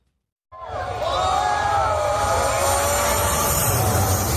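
A loud, steady roar of House Speaker Nancy Pelosi's aircraft engine touching down in Taipei, Taiwan, cuts in abruptly and holds, with a whining tone and rumbling low end, while cheering local residents blend faintly into the din.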